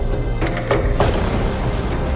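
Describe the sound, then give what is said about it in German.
Several sharp knocks on wood aboard the ship Demeter, given as an all-clear signal, around six quick raps in an uneven pattern, heard over a steady low rumble with no one speaking. “Um Entwarnung zu geben, klopfen wir so auf Holz.”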